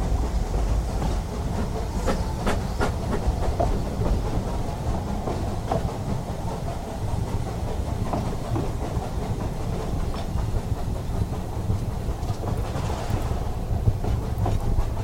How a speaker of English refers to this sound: We got to the Dean Forest Railway and they'd put on a special train for us, which is amazing.